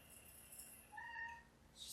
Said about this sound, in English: Hello! You hear my cat?